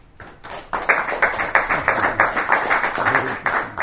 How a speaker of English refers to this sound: I'd like to give another big round of applause.